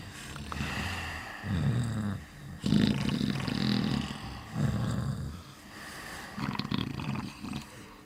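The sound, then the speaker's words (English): Children snoring in a large dark workhouse room full of low wooden beds, each shared by two or three sleeping children: a run of low, rasping, drawn-out snores repeating every second or two, fairly loud and overlapping with a steady background hum, with no talking. “The sound of snoring filled the rancid air.”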